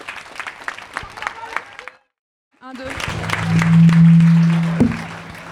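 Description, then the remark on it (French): An audience applauds in a dense, crackling patter that cuts off into brief silence, then swells back louder, with a steady low hum and some murmuring voices underneath. “Je vous remercie pour votre patience, pour votre concentration, pour les applaudissements.”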